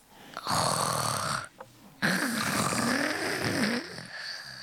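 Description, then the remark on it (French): A voice imitates a bear snoring with the throat: two long, rough throaty rasps, the second lower and rumbling with wavering pitch, fairly loud with a brief pause between them. “Le ronflement de l'ours avec la gorge.”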